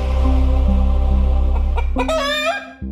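A chicken clucks a few times in quick succession, then lets out a loud crowing call that rises and holds briefly before cutting off, over a steady low hum.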